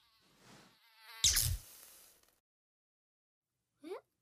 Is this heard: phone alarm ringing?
no